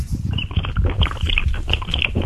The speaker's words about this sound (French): Il boit.